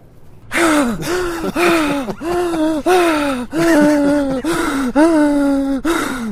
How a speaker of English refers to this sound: who's that breathing heavily? Is that you or me